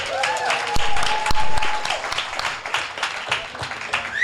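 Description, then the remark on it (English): An audience applauds an up-and-coming singer-songwriter from Manchester whose music is played on BBC Radio Manchester, a dense, steady wash of many hands clapping at an even loudness throughout, with a faint whistle or cheer rising above it early on. “His music is now being played on BBC Radio Manchester, so let's have an applause for that.”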